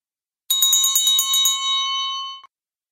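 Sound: small bells jingling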